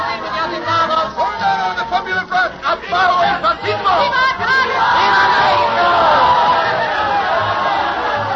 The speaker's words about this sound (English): This time it's the National Revolutionary Party, the PNR, the CTM, the Confederation of Mexican Workers. We've arrived at the year 1934. They're cheering the new presidente, Cardenas, elected by the will of the majority. Elect Cardenas!